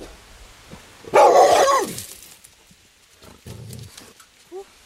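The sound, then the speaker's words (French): Two large dogs at a medieval castle, trying to get under a door: one lets out a loud, deep, gruff bark, followed a moment later by a shorter, softer bark and a faint yelp. “Il y a deux gros chiens qui arrivent, qui essaient de passer sous la porte.”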